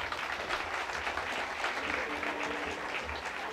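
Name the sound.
audience applause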